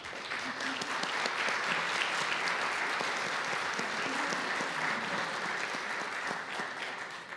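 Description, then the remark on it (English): Steady audience applause fills the whole stretch as a student is recognized for outstanding character, academics and service. It is a dense patter of many hands clapping at an even, fairly loud level, with no voices standing out above it. “You can applaud her.”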